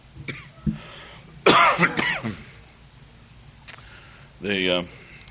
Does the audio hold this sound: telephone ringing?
no